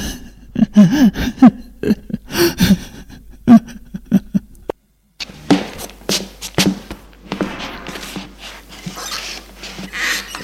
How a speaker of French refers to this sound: Pleure.